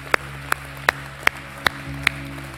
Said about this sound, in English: Let's clap right now and thank God.